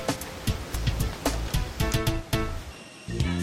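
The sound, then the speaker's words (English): Rough ocean waves at an island churn and crash under roaring rain and dark skies in a loud, continuous wash of noise, with repeated sharp splashes breaking through the steady roar. “You definitely caught my attention with your roaring rains, rough waves, and dark skies, leaving me with a lasting first impression, that's for sure.”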